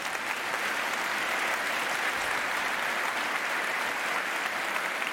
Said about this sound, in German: Ein Applaus aus dem Saal.